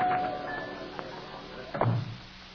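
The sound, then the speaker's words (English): A dressing-room door opens and closes: a faint click of the latch, then a louder, muffled thud as it shuts, with no one speaking. “Here, right through this door”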